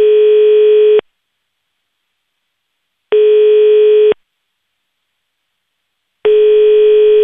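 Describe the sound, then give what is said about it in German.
A telephone ringing tone repeats three times, each steady one-second beep separated by about two seconds of silence, clear and alone with no one picking up. It is a call to Köbi Frei, SVP finance director of Appenzell Ausserrhoden, who does not answer. “Das Telefon nimmt der Köbi Frei nicht ab.”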